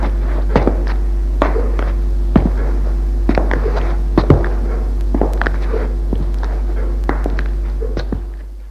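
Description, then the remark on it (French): Steady footsteps, about nine evenly spaced thuds roughly a second apart, climbing a wooden staircase to the upper floor and continuing along a corridor over a constant low hum, with no voices. “Elle fait chut, lui prend la main et il monte à l'étage. Puis, suivent un couloir.”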